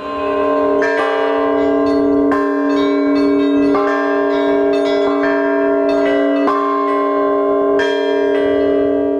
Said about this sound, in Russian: Перед поднятием колоколов прихожане услышали их звон.